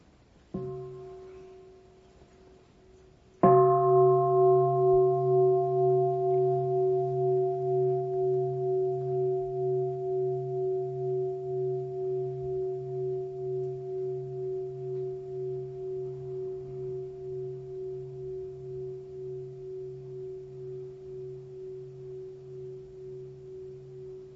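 A Buddhist meditation bell is struck twice, first softly and then firmly, to begin a few minutes of seated meditation; its deep pure tone hums and wavers as it rings out slowly over about twenty seconds, with no voices.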